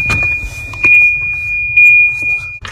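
A car's door chime, modified to play a computerized version of a pop song, sounds a thin, high-pitched melody in steady beeping tones, over soft rustling and a few clunks as a man gets into the car and starts it.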